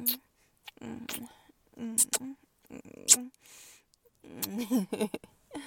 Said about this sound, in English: Oh, your whimpers sound so cute.